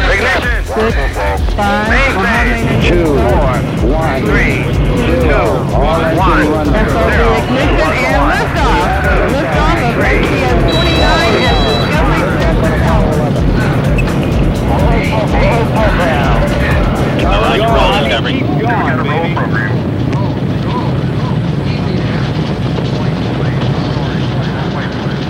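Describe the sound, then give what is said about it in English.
A loud, sustained roar of rocket main engines at launch fills the scene, a dense rumbling thunder that holds steady throughout, with excited voices and crowd chatter mixed in over it. “We have a go for main engine start.”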